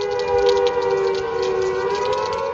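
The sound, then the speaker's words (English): A World War II alarm siren, sounded as an emergency warning of oncoming floods during the COP29 climate talks, wails in a loud, sustained tone that holds a fairly steady pitch, with a constant hiss underneath and no one speaking. “The emergency all these years later is not warfare, but oncoming floods. It could not have been more symbolic, ringing as the world haggled over a new climate deal at COP29, as if to say...”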